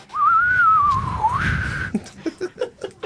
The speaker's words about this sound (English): I told you to work on the whistle. It only counts if I'm not laughing.